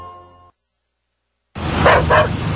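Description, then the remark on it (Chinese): A dog barks twice in quick succession, loud, following a brief musical tone and a moment of silence. “乖孙的啊，你饲狗敢预防小狗病？”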